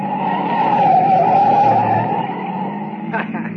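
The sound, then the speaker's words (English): The tires of a light car screech loudly as it takes a sharp right turn at speed and almost tips over, a sustained, wavering squeal lasting about two seconds over a rumbling engine, then easing off into steady motor noise with a brief rattle. “Baby, look at her take that right turn, huh? She almost went over. That's a light car she's got. Don't hold the road so good.”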